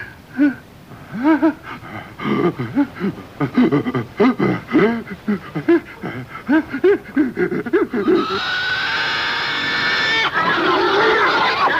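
A crowd of pigs squeals and grunts in frantic overlapping bursts for several seconds, then the noise turns into a steady rushing clatter like a herd stampeding away.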